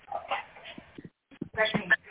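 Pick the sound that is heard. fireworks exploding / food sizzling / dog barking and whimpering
dog barking and whimpering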